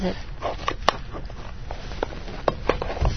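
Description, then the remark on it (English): Beef being browned sizzles in a hot pan, a steady crackling hiss broken by scattered sharp pops and clicks, with faint murmurs of voices in the background. “Oh, I can hear that sizzling already.”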